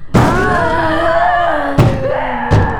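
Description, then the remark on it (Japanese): A lion batters against a door: three heavy, booming thuds at uneven intervals, with a loud, drawn-out groaning roar sustained between the blows. “さすが猛獣、ライオンの力ならこんな扉すぐ破られてしまう。”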